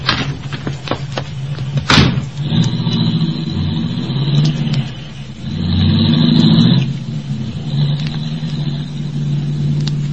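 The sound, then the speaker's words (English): A car door slams shut at a street corner, then an engine revs and the car pulls away, its low rumble rising and shifting as it accelerates, loud with no voices. “I'm waiting at a street corner for the light to change when a car pulls up beside me.”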